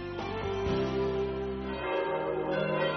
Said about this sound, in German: Und das sind die Glocken der katholischen Pfarrkirche St. Nikolaus in Greimerath im Hochwald. Man hört vier Glocken, die Nikolaus, die Josef, die Maria und die Engelsglocke.